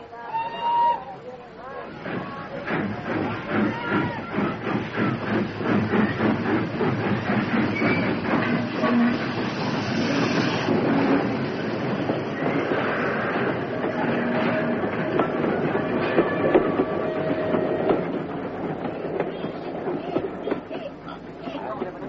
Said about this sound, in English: Great is the speed of the train. Since we left Lahore, we've gone farther than you could have walked in many days.